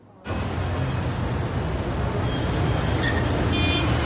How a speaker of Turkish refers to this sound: Çarşı içinde saat kulesi karşısında durmuş bekliyorlar. Konuşmadan öylece geçen arabalara, akşam kalabalığına bakıyorlar.